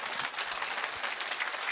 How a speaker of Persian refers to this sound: به یمن قدوم قمر منیر بنی هاشم و به یمن قدوم آقا جانمون ابو عبدالله دستتو بیار بالا، به شادی دل حضرت زهرا با نام امیرالمومنین کف مرتب بزن.